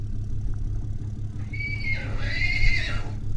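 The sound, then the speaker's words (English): A wild mustang whinnies once at the very windy BLM Boise Wild Horse Corrals south of the city, a drawn-out, wavering call lasting about two seconds, heard over a steady low rumble of wind and engine noise as a horse trailer drives through the back gate. “our reporter, Samantha Wright, went out among these Mustangs and filed this report”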